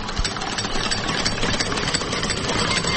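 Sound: car engine running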